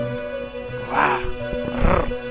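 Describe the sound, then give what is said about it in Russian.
Two short, growling tiger roars, one after the other, ring out over a steady humming musical tone in the background. “Тигр.”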